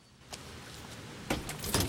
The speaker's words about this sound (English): Logan picks up his bag, then opens the door.